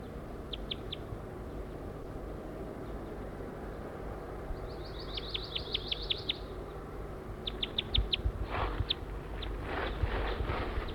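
A wild bird that flew down to the net area gives short, high, thin chirps in small bursts, including a quick run of rapid notes, over a steady low rumble. Soft thuds or steps join near the end.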